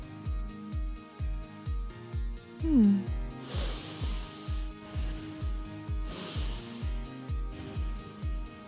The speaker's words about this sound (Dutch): Snottert neus.